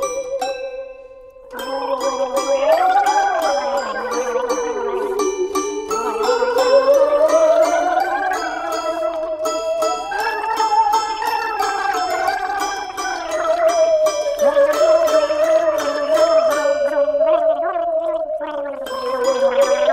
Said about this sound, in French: Quand j'entends ces glou-glou que ça fait en moi, quand je bois, ça me fiche le bourdon.